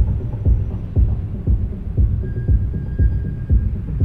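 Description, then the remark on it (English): Deep bass from acid tracks throbs steadily about twice a second, heavy and muffled as it reverberates through the concrete foundations of the Westway, with a low hum filling the gaps and no voices. “You could only find them by following the echoes, listening for the bass coming up from the ground.”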